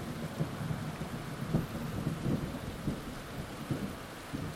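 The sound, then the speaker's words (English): Steady rain from a rainstorm in Southeast Asia pours onto a water surface, a dense, continuous hiss of drops with no voices, underscored by a low, rolling rumble that swells and fades throughout. “And if you catch that rainstorm at dusk, you are surrounded by bioluminescent plankton that sparkle and shimmer as you move your limbs through the water or as the rain hits and agitates the surface.”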